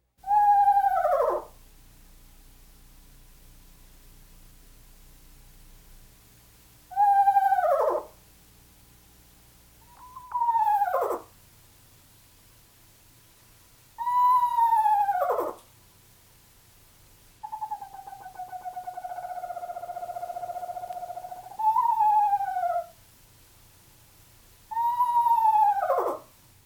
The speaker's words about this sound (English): At times, the whinny seems to hover around one pitch in a whistle tremolo. Listen again to the rather eerie song of the eastern screech owl.